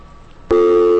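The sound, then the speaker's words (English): A steady electronic phone-line tone cuts in abruptly halfway through, loud and continuous after a quiet stretch of low background noise, like the tone left after a dropped call. “I'm going to interrupt because I think we have a phone call.”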